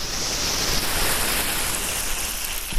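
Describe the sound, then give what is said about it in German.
A garden hose sprays water in a steady, unbroken hiss, watering the few remaining plants in a former fun swimming pool in Rotterdam now used to grow oyster mushrooms, bright and full across the whole clip with no pauses and no voices. “Der Gartenschlauch ist so ein bisschen das Einzige, was hier noch rauscht an Wasser.”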